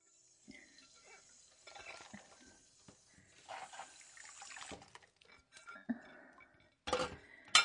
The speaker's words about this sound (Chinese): 哎呀，哎呀，这洗碗的水都溅到衣服上了。可是不用力洗的话，又洗不出来。